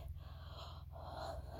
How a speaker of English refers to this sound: I'm breathing. Deep belly breaths. I can do it.